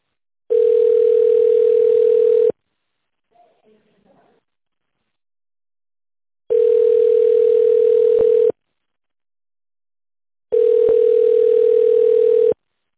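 A telephone ringback tone while waiting for the company Promarsenal to answer after an automated phone menu: three steady, mid-pitched beeps, each about two seconds long, separated by even pauses, with a faint brief murmur after the first.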